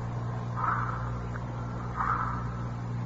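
A mechanical twist doorbell at the front door of a large two-story house converted into a rooming house gives two short rattling rings about a second and a half apart, over a steady low hum with no one speaking.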